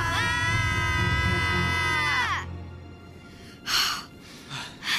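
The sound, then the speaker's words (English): Several people scream loudly together with arms raised to scare off a crouching cougar about 20 feet away, in one long sustained yell that drops off after about two seconds, followed by quieter pauses and a couple of breathy gasps. “Hold your arms up and scream.”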